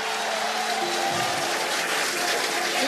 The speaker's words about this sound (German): Der Jubel ist groß, wenn in Cape Canaveral, Florida oder Boca Chica, Texas eine SpaceX-Rakete nach einem Flug zurück zur Erde kommt und quasi im fliegenden Rückwärtsgang in die Rampe zurückkehrt.